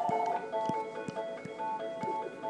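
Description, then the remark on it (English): A musical phone ringtone plays a steady, sustained electronic melody in the mid to high register, with regular soft percussive beats about every half second. Fairly quiet, with no talking over it. “Sorry about that, we had a phone ring. That's a cool ringtone, by the way.”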